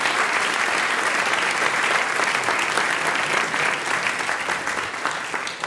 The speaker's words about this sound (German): Einen Applaus für unsere Gruppe aus Slowenien.